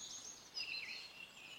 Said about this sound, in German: Heute nehme ich euch mal wieder mit in den Wald. Ihr hört vielleicht im Hintergrund so ein bisschen die Vögel singen.